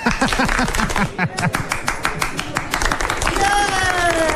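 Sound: audience round of applause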